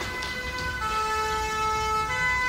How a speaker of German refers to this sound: Polizeisirenen kombiniert mit Musik aus einer nahegelegenen Kneipe.